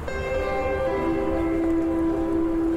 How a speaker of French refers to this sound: Au loin, le RER défile.